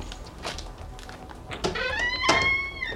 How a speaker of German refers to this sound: Doch bevor er fündig wurde, öffnete sich die Tür einen Spalt.